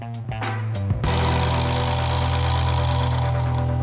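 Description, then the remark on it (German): A car engine hums steadily and loudly, a constant low drone that settles in after a few brief knocks and rattles at the start, as the car drives through a city. No voices. “sitzt in Jans Auto, sie fährt mit ihm durch die Stadt”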